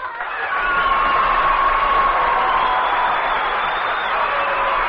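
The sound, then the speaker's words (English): A large audience cheers and applauds the introduction of guest star Danny Kaye in a loud, steady roar that swells within the first half second and holds at full strength, with shrill whistles and whoops rising above the crowd noise. “did you notice that Mr. Danny Kaye got more applause than Danny Kaye?”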